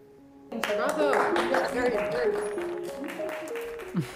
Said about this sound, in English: That was inspiring, you know, when they clapped and one of the Mrs. Claus does not want to wear a dress.